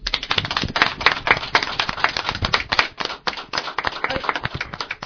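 A crowd claps steadily, a dense patter of many hands in quick, overlapping bursts at moderate loudness, continuing evenly with no voices on top.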